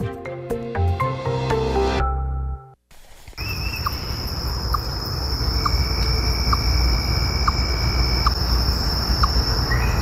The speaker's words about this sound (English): Why do they always trick me? I always think it's a bird. I know, I think it sounds like a little frog, but it's a chipmunk making a little monk sound.